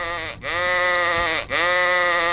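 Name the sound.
sheep bleating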